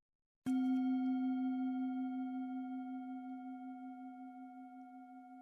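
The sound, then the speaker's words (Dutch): A single meditation bell is struck once to begin a meditation, giving a sharp attack followed by a clear, steady ringing tone with bright overtones that slowly fades over several seconds, with no talking. “Als je de bel hoort, dan begint de meditatie.”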